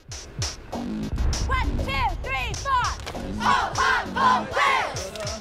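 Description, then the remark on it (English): The Wales cheerleading squad, standing in a line, shouts a cheer together in loud, rhythmic bursts of unison voices, rising and falling in pitch, with dull thumps from claps or stomps beneath. “The Wales team stand in a line to perform a cheer.”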